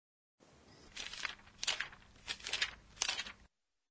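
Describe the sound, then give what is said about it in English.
Several soft, crisp papery swishes follow one another at an uneven pace, like book pages being turned one after another, with no voices. “All right, I would have to say that that sounds like turning the pages of a book.”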